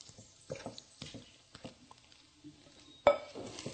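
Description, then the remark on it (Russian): Pie crust dough of flour, plant-based margarine, cold water and salt being stirred in a bowl: soft, wet squishing and scraping in an irregular rhythm, with light clinks of a utensil and one sharp knock against the bowl near the end. “И все это мешаем.”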